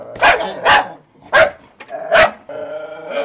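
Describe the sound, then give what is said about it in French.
Two guard dogs, each locked in its own cage in Bangui, bark at arriving visitors in loud bursts, about four sharp barks over a few seconds, followed by a tonal whine or yelp near the end. “Enfermés chacun dans leur cage, défoncés et partout, deux chiens aboient à notre arrivée.”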